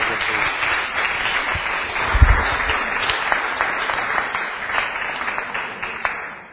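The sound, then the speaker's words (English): An audience applauds the professor to wrap things up, many hands clapping in a dense, even wash of sound that holds at a fairly loud level throughout, with a brief low thump partway in and no voices. “So maybe it's time to just wrap things up and give a good round of applause to Professor.”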